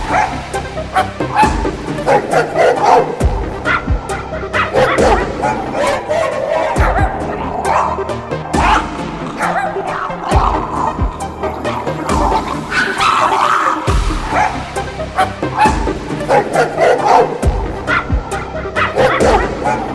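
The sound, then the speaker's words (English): Five elderly chihuahuas wearing dresses bark and yip frantically and nonstop, their high-pitched, overlapping yaps dense and loud throughout, with occasional whimpers mixed in. “5 elderly chihuahuas wearing dresses. Freaking the fuck out.”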